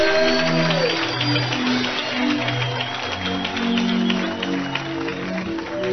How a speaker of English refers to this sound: Let's clap for Jesus one more time.